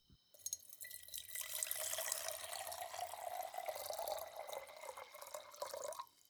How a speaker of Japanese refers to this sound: こうして丁寧に摘み取ったお花をガラスのポットに入れて、あとはお湯を注ぐだけです。